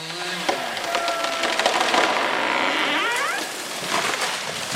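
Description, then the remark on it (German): A fir tree about 30 metres tall and roughly 100 years old is felled near Andrzej Zbrojek's house in a Polish forest: dense crackling and splintering wood with sharp snaps clustering midway, over a steady broad rush and a faint wavering mechanical whine. “Unweit von Andrzej Zbrojeks Haus fällt eine Tanne.”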